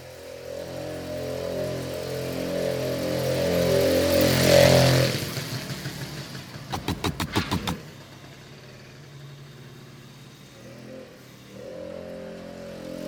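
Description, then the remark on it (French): Small moped and motorcycle engines whine and rise as one passes by, followed by a burst of sharp revving pulses, then a lower engine drone fading away. “Des sons, ben, c'est le bruit des motos là, les mobilettes là, qui m'énervent.”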